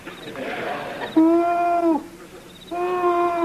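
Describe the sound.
A man's voice imitates an owl, giving two long, steady hoots with a short pause between them, each held at an even mid pitch after a soft breathy rustle.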